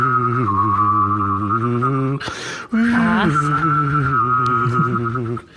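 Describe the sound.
A person whistles and hums at once to make a UFO sound, trying to play a tune: a steady buzzy hum layered under a warbling whistle; a brief breath breaks it midway before the wavering tone resumes.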